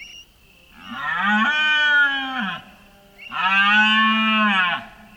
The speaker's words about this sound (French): Il s'agit du bramement qu'émettent les cerfs mâles adultes au commencement de la période d'accouplement pour attirer les femelles.